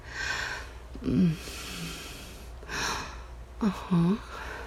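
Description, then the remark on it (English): A woman gasps several times, sharp breathy intakes with a faint voiced catch, spaced unevenly and coming quicker together at the end, with no speech. “Yeah, I gasped.”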